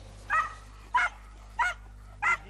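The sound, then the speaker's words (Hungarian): A hunting dog barks four times at a steady, unhurried pace, each bark short and sharp, with a low constant hum underneath, as hunting dogs search the forests around Kemence in the Börzsöny, Hungary, near the Slovak border, in a hunt for a bear. “Vadászkutyákkal járták a környékbeli erdőket órákon át.”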